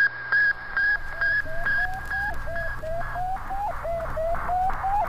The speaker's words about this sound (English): This is also one of the sounds of Sputnik, and if this one seems more foreboding, that's exactly the way Americans heard it. Sputnik was the first man-made satellite ever to circumnavigate the Earth. The Soviets launched it in October 1957.